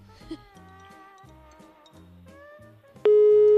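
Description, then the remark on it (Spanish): An old landline telephone tone comes over the line as a random number without an area code is called: soft, wavering tonal pulses at first, then a sudden loud, steady electronic beep that holds to the end. “Uy, esto suena fijo antiguo, ¿eh? No tiene ni prefijo esto.”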